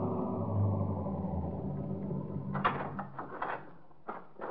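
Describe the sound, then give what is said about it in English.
A police car's engine rumbles low and steady as it rolls in along a dirt road in the Catskills, then a series of crunching, clunking bursts follow as it slows and comes to a stop in front of the Sportsman's Retreat lodge. “And 20 minutes later, we were pulling up in front of the lodge.”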